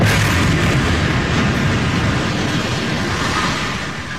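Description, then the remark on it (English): A loud, heavy explosion as the Al-Susi high-rise residential building is struck on September 6th roars as a dense, rumbling wall of noise that holds steady for several seconds before slowly beginning to fade. No voices are heard. “The Al-Susi high-rise residential building was struck on September 6th.”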